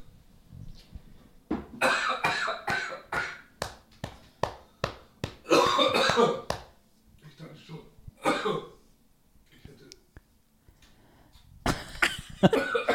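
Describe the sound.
A person coughs hard after choking on a drink, in a long run of rough, sputtering bursts, pausing briefly, then more harsh coughs and throat clearing, with quiet talk in between.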